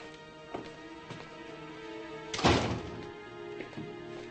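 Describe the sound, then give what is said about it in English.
A single heavy, muffled thunk of a door shutting around the middle, with a few faint knocks before and after against a low background hum. “Close the door.”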